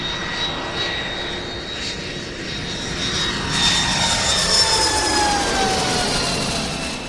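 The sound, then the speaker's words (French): A jet airplane engine at Charles de Gaulle airport roars steadily and loudly throughout, its high whining tones slowly sliding in pitch as the rumble swells slightly midway, with no voices. “Quand je descends de l'avion à l'aéroport Charles de Gaulle, le froid.”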